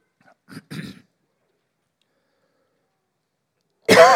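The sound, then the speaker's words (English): Two short, muffled coughs come close together at the start, then a few seconds of quiet before a sudden loud burst of voice cuts in at the end. “Well, I'm not sure what signal to give when I'm going to cough or sneeze.”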